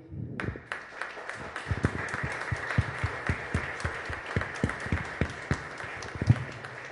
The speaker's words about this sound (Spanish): Está también con nosotros, y también un aplauso enorme, enorme, enorme a nuestras doñas